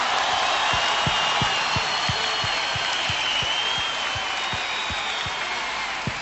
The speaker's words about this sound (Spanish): Recibe este …, venga, fuerte el aplauso público para ….